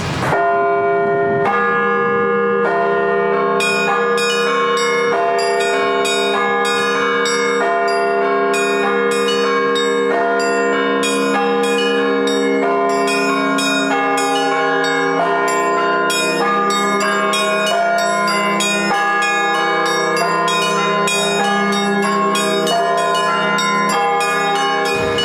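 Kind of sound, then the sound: signal or alarm, church bells ringing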